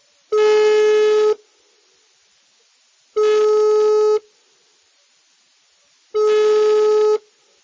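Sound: telephone ringback tone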